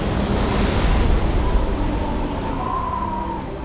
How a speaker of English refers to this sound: And the Lord turned a very strong west wind, which took the locusts away and blew them into the Red Sea.